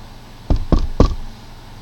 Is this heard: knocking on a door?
yes